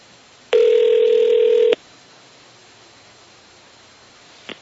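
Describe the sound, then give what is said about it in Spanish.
A single ringback tone on an outgoing phone call to a car workshop, Madi Autos, an authorized Hyundai dealer: one steady buzzing electronic tone lasting just over a second, followed by quiet line hiss and a faint click at the end. “No contestan. Estamos llamando a un taller.”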